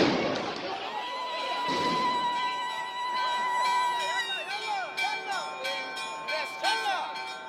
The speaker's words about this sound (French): Et en dénonçant des provocations, les forces de l'ordre sont intervenues sur ce site ultra-sensible à coups de grenades explosives, dont le seul but de disperser la foule, dénoncent les Palestiniens.